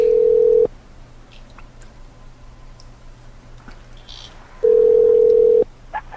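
A loud, steady telephone dial tone sounds briefly as a call back is dialed, cuts out into a quiet stretch with faint clicks and tones of dialing, then the steady tone returns for about a second.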